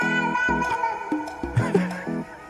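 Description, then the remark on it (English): A cat meows a few times, its cries drenched in echoing reverb and blended into a steady, tonal musical backing, with no one talking. “I love the reverb on the cat.”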